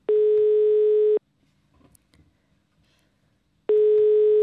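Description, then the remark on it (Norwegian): A phone line's ringback tone as an outgoing call to Under Dusken waits to be answered: two steady, buzzy beeps about a second long, separated by a pause with faint line noise. No one speaks. “Jeg er i hvert fall veldig spent å høre når Rutta skulle ringe Under Dusken.”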